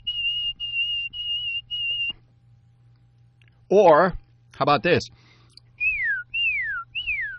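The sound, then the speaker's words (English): A person whistles an imitation of a white-throated sparrow's call: four steady high notes in even rhythm, a short spoken question, then three descending slurred whistles, over a low constant hum. “And let me give my see if I'm on tune with that one, okay?”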